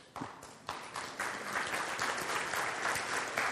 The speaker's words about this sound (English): Let's give them a good hand. Good crowd.